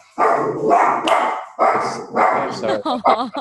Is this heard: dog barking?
yes